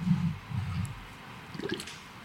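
Water sloshes and churns as someone dips under the surface of a small mountain lake to look for someone, followed by a brief burst of bubbling and gurgling, with no voices.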